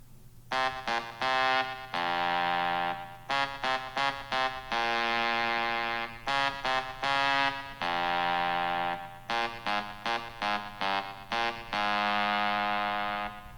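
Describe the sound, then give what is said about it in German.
A rock anthem melody plunked out on a phone in buzzy, synth-like tones: clusters of quick staccato notes each ending in a long held note, the phrase repeating four times with no talking. “Ihr habt es wahrscheinlich erkannt, was ich hier so dilettantisch auf meinem Handy eingespielt habe.”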